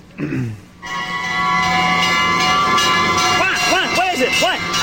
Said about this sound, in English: What? Take it easy, Bert. That's just one. That's one. One what? One what? What? Well, one fire engine. You see, One fire engine? Yeah, you see, I got bored counting sheep, so I decided I would count something more exciting than sheep.